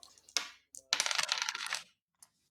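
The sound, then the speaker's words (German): Dice clatter onto a surface: a few sharp clicks, then a second of busy rattling that quickly settles, with one last faint tap. Fairly quiet, no voices. “Wahrscheinlich muss ich jetzt würfeln.”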